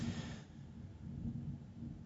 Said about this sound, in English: You hear the thunder?